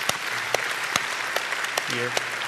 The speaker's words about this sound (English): You're really applauding my wife, who does most of the work anyway. That's true. So that's very true. Very true.